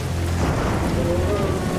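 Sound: rain falling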